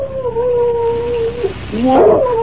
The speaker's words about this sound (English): I'd have sworn I heard something out here. And what's that? Just a shadow, I guess. But just the same, a dog. That's what I heard.